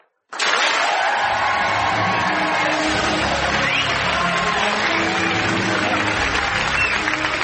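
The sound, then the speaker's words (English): A large crowd bursts into sustained, loud applause at the end of the show, starting abruptly and keeping going at a steady, dense level, with some cheering mixed into the clapping. “It's the end of the show, so it's a round of applause, and then we'll play the theme music.”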